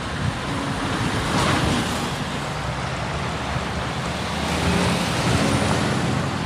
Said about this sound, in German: An mir vorbei rauschen Autos um Autos um Autos.